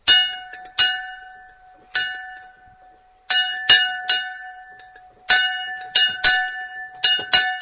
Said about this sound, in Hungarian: Persze nem volt óra, ugye nagyon sok helyen, és ezért kellett ehhez folyamodni. Most egy megfelelő szép helyet kapott, hányodott erről túl, de jó, hogy megvan, és hát ennek nagyon-nagyon örvendünk, hogy megvan a csengő, és ott van kint fölállítva.